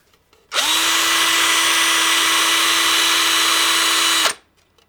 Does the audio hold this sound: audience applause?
no